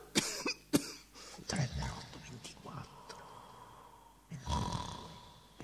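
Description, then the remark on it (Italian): Two sharp coughs in quick succession, followed by rougher throaty coughing and a longer raspy burst near the end, with faint murmuring and breathing noises in between. “Qualcuno che tossisce, uno degli orchestrali russa in un angolo.”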